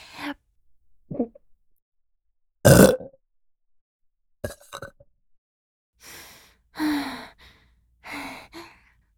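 Several throaty burps mixed with breathy sighs, one sharp loud burst early on and a few softer, drawn-out ones later, spaced by short silences with no talking.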